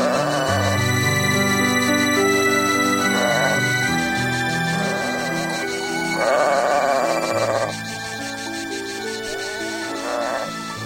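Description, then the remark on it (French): Several wavering sheep bleats from a flock on a hill at Medjugorje, on a sunny, very hot day, rise at intervals over a steady bed of music with sustained low notes and ringing, bell-like tones. “deux jeunes filles, Ivanka et Mirjana, se dirigent vers la colline pour aller chercher les moutons”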